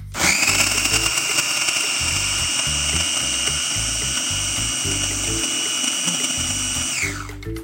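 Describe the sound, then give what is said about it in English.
A food processor with its lid locked in place runs for about seven seconds to combine ingredients, with a steady, loud motor whine over choppy low thumping as the contents churn, then winds down quickly at the end. No one speaks. “All right, and so we're going to turn on the food processor and process just until those ingredients are combined, which shouldn't take very long, like maybe 10 seconds or so.”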